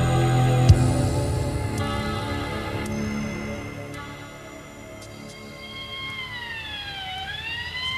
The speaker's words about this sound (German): Ein Streifenwagen war noch vor dem Krankenwagen da.